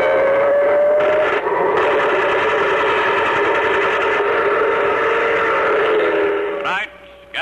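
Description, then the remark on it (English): A loud steam train whistle from a carnival show train blows in one long, sustained, multi-toned blast over rumbling rail noise, holding steady for several seconds before cutting off abruptly. “Presents the case of the Carnival Caper, when robbery rode the big show train,”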